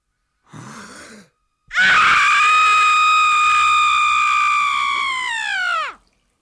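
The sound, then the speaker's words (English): A man's voice imitates a woman screaming in childbirth: a quick breathy gasp, then one long, loud, high-pitched scream held for about four seconds before its pitch drops and it cuts off. “It's the fire, water, female birth scream. And this is about as close as I've been able to get.”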